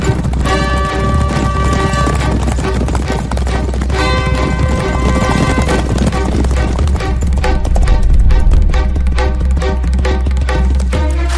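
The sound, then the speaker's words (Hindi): Rapid galloping hoofbeats from several horses ridden by bandits holding guns, passing from right to left in front of the rising sun, drum steadily beneath loud, sustained orchestral music, the clatter continuous throughout without any voices. “दूर चट्टानों के पीछे से निकलता हुआ सूरज और हमारे दाएं से बाईं ओर घोड़ों पर हाथ में बंदूकें थामे डाकू जा रहे हैं। घोड़े ठीक सूरज के सामने से गुजर रहे हैं।”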